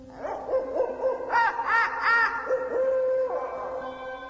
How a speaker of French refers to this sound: Mais ce soir-là, alors que le marché va bientôt fermer, alors que l'on peut déjà entendre les oiseaux nocturnes qui se sont éveillés,